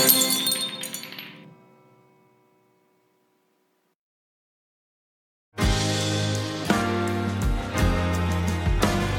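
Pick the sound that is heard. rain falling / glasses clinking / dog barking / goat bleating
glasses clinking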